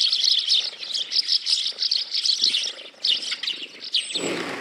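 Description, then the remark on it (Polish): Busy, repeated chirping from a flock of Eurasian tree sparrows calling in quick overlapping bursts, with a brief low rumble near the end. “Mazurek zaakceptował te zmiany, choć też kurczą się dla niego miejsca na gniazda, głównie przez docieplanie budynków.”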